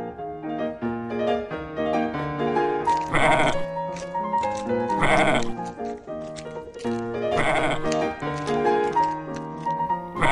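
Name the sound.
herd of goats bleating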